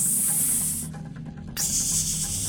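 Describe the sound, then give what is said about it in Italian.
A small silkworm, hanging from a twig and swaying, makes a steady, bright hiss like air escaping or a snake. The hiss breaks off briefly in the middle, then resumes just as loud for another second, over a low faint hum. “Sibila il baco dondolandosi.”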